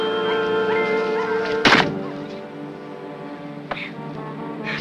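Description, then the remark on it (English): A snowball hits Ralphie in the eye on snow-covered ground by an old wooden fence and a gutted car, a single dull, muffled thud over a steady low droning tone. A fainter thump follows a few seconds later. “Suddenly, a snowball hits Ralphie in the eye.”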